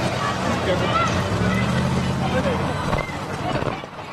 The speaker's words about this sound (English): All right, now you can hear the crowd is sort of disappearing because he and his entourage they're walking away as fast as they can.